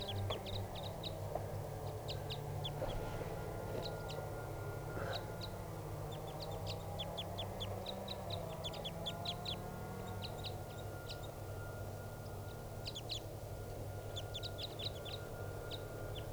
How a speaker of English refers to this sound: That wild bird's still up in the top of the tall tree preening, and he's with another bird now. I think it's another crossbill. It's a greenish one. Stop. They're kind of the birds calling now, ready to take off.